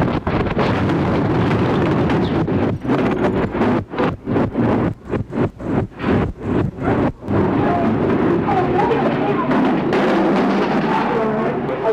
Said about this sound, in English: There has been a massive explosion at a federal building in Oklahoma City, Oklahoma. It happened just a short time ago.